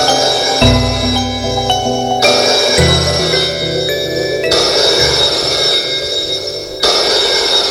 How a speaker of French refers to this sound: Après-midi, le téléphone sonne dans la chambre de Julien.